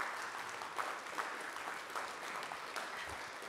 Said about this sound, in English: If you're on this Dream Team, go ahead and stand up. You guys, give them a round of applause.